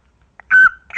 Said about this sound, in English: A caca, that's a dog.